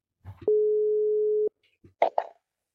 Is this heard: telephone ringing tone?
yes